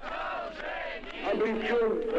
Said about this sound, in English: And later that year, he was greeted with cheers and applause by the people of Vladivostok.